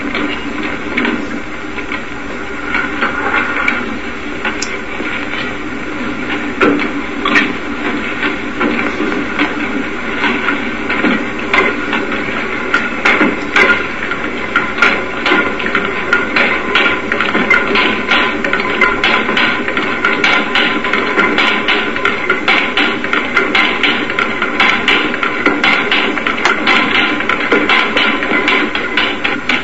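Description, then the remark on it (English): An early Diesel engine, built at Augsburg in Germany during 1893 and never run under its own power, being turned over by a belt, with steady rhythmic knocking and mechanical clatter that stays loud for the whole stretch, no voices. “Engine never ran under its own power.”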